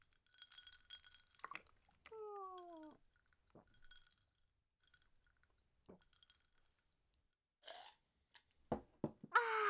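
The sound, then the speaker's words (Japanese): Glasses of tea clink together in a toast with bright, ringing chimes, followed by a few soft taps and quiet, then gulps and sips of drinking near the end, with no talking. “もう一回乾杯しましょう。じゃあもう一回、お兄さんとミトの出会いに乾杯です。”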